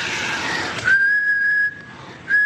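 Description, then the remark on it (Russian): A breathy rush of air gives way to a person's steady, sustained whistled tone, with breath escaping together with the whistle as an airy hiss, then a second whistle starts briefly at the end. Fairly loud, no talking. “Ну, вот так бывало, люди пытались подражать мне. Вот такой свист.”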